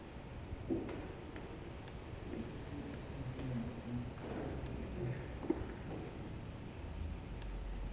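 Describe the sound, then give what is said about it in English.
A soft, steady hiss of exhaled breath from a group of people during a breathing exercise, sustained for several seconds, with a faint low rumble beneath it. “So for that, we're going to use the hissing, and we'll just simply slide our hands up the front wall of the body as our partners do the hissing.”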